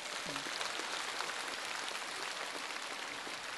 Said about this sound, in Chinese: 鼓掌。